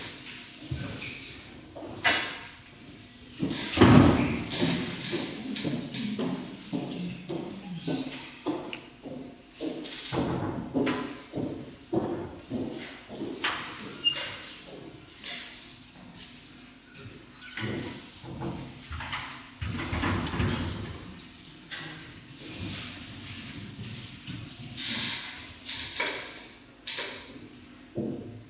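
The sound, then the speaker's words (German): A door shuts with a solid thump a few seconds in, followed by ongoing shuffling, creaks and scattered knocks of people moving about a room. “Macht doch die Tür zu, bitte.”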